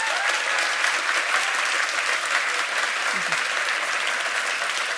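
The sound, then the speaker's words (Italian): Sustained audience applause for contestant Agnese at a contest with a jury, measured on an applause meter, fills the whole stretch: a dense, steady wash of many hands clapping at an even, loud level with no pauses and no talking over it. “Pronti con l'applausometro? 3, 2, 1, via!”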